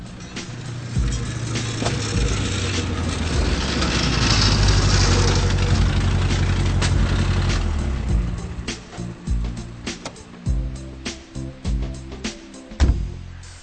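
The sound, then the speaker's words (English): A car with a rough, rattly, broken exhaust that needs replacing rolls into the yard of a garage, its engine rumbling loudly, then settles into a low, uneven idle with a few clunks and knocks. “As soon as Philip drives into the yard of the garage, the mechanic also notices that a new exhaust is fällig”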